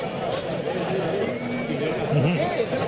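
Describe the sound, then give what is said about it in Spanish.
Two Breton or Hispano-Breton draft horses, Chico and Euro, used for dragging at a bullfight, whinny amid a busy, murmuring crowd, with faint clopping hooves and people chatting throughout the short, steady scene. “Caballo bretone o hispano bretone. Sí. Fuerte. No, caballo de tiro.”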